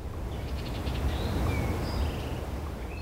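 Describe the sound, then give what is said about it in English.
Maybe 5 or 6 bird species, including the gray catbird, house wren, eastern towhee and wood thrush, sing at once at Clyde Shepherd Nature Preserve over a steady low rumble: quick repeated chirps, thin rising whistles and short trilled phrases overlap, all fairly soft and high-pitched, with no voices. “What you're hearing now, Christina tells us, is the sounds of maybe 5 or 6 species of birds, including the gray catbird, the house wren, the eastern towhee, and the wood thrush.”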